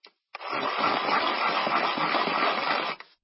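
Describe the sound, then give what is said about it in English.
A new standard HB pencil is ground in a desk-held pencil sharpener: a steady, raspy mechanical whirring that lasts nearly three seconds after a short click, then stops abruptly. No voices. “Slow zoom into shot of a new standard HB pencil being sharpened on a desk held pencil sharpener.”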